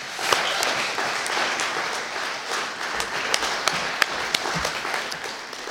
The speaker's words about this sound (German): Das verdient an der Stelle, finde ich, nochmal einen ganz besonders lauten Applaus. Macht bitte Lärm für ihn, wenn er hier nochmal auf die Bühne kommt.